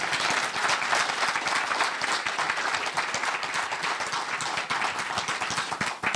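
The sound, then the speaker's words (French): An audience applauds as speaker Mathieu Boccoté is introduced for a lecture, a dense, sustained patter of many hands clapping at an even, fairly loud level for several seconds without any voices. “S'il vous plaît, applaudissez M. Mathieu Boccoté.”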